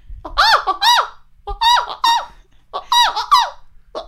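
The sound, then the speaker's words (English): A person mimics a bird call with squeaky, high-pitched rising and falling whistles, repeated in three quick bursts with short pauses between, fairly loud. “You ever heard a bird like that? That was just doing this it's over and over again.”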